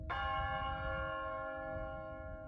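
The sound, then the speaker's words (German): A single deep church bell strike at midnight rings out through the corridors of Stadelheim, its layered metallic tones humming and slowly fading over a low, steady rumble, with no voices. “Mitternacht. 12 Schläge. Jeder einzelne hallt durch die Gänge von Stadelheim, wie das Ticken einer Uhr, die endlich stehen bleibt.”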